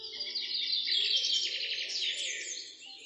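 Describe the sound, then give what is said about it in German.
A dense chorus of birds chirps and twitters continuously throughout at sunrise, bright, with several calls overlapping over an otherwise quiet background and no voices. “Als ich aufwachte, ging gerade die Sonne auf. Vögel zwitscherten, sonst noch alles leise.”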